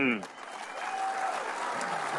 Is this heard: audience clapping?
yes